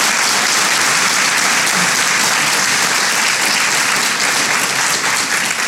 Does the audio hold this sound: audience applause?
yes